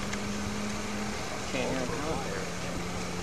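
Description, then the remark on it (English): A car engine runs steadily with a low, droning exhaust hum, holding an even loudness throughout, while faint voices come through briefly partway in. “Hey, it sounds like they bolted the exhaust system back together anyway.”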